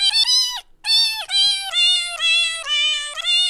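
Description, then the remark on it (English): A cat piano app plays a quick run of about seven synthetic meow notes, each stepping to a new pitch, loud with a brief gap early on and no talking. “you're loving your little cat piano”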